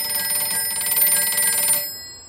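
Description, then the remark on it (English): A telephone bell rings loudly and continuously with a rapid metallic trill for nearly two seconds, waking Jackie Robinson from sleep with a call from Branch Rickey's office in 1947, then cuts off abruptly, leaving a brief quiet tail. “The phone rouses Jackie from his slumber.”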